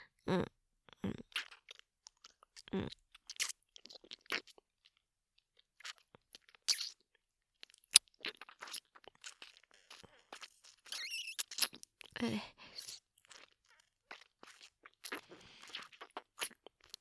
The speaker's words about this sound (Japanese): それじゃあもっと舐めてあげる。